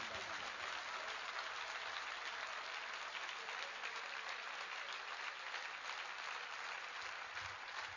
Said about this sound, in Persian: حالا دست رو بیار بالا، یک کف مرتب بزنم برای هم.